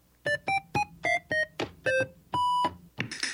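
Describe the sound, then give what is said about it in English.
Telephone keypad beeps as a number is dialed to place a call: about seven short, clear tones at varying pitches in quick succession, then one longer steady tone, with no talking. “Chester King hangs up the telephone and makes another phone call.”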